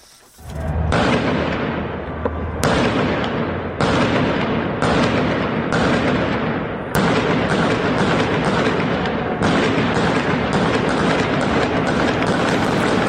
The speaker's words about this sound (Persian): خب در همین ارتباط یک ویدیویی به تازگی اومد بیرون چند دقیقه است در محله پونک تهران، محله که جمعیت بسیاری در اون تجمع میکردن. صدای شلیک گلوله در این ویدیو وحشتناک است.